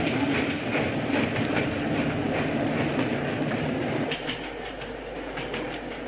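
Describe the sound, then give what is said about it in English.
A moving train on the British railway system rumbles steadily along the tracks with dense, continuous clatter and rhythmic wheel clicks, loud, easing slightly in intensity partway through. “Stop the train, I say!”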